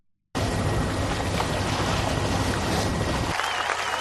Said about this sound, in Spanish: Hoy oís el barquito navegando, ahora oís los aplausos del podio. Era un tornado y eran Fernando León y Pepote Ballester, el regatista balear, que es uno de los pocos oros olímpicos de la vela balear en la historia. Fue en Atlanta